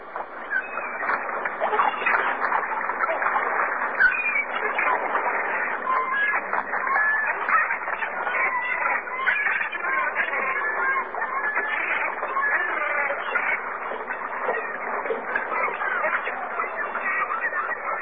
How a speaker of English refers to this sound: To hear seagulls, press 3. Seagulls.